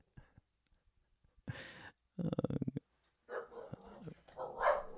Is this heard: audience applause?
no